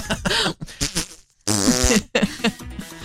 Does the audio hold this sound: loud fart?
yes